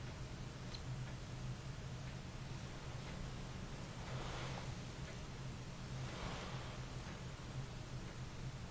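Soft, steady ocean surf washes in, with a couple of gentle swells rising and falling over a constant hiss and a faint low hum. No voices are heard.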